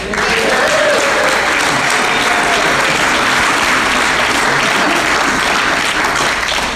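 An audience at an Al-Anon meeting bursts into sustained applause welcoming the evening's speaker, a dense, steady wash of many hands clapping at an even loudness for several seconds, with no speech over it.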